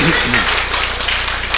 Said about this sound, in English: I'll give them a round of applause because it's really awkward right now.